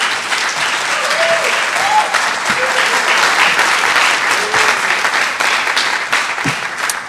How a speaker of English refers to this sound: So can we just applaud his life, just for the record?